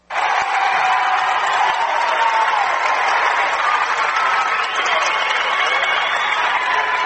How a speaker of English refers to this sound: Well, the cheering sections from both schools on their feet as we commence play here in the fourth and final quarter.